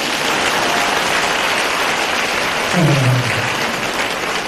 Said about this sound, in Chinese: 鼓掌啊！